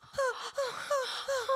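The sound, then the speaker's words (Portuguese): A voice imitates a maiden's delicate, whimpering crying: four short, high-pitched sobbing whimpers in a steady rhythm, moderately loud, with breathy catches between them. “Uma maneira, eu choro como uma donzela e faço”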